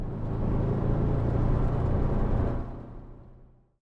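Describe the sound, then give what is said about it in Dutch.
The engine of a slow bus rumbles with a low, steady drone for a few seconds, then fades away as it moves off. No voices are heard. “This bus is slow.”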